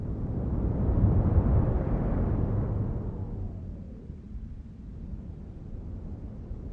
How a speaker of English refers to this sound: So then the wind starts to take over from the human sound, and then you are left with only the wind. Once you get up into the jet stream at about 10 kilometres up, that's where the wind is much stronger.